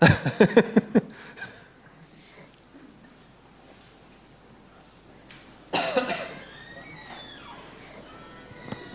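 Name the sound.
coughing fit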